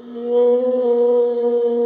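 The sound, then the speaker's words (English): A whale vocalization recorded underwater: one long, steady, droning moan with a rich harmonic buzz, holding a fairly constant pitch at a moderately loud level throughout, with no voices. “Whales.”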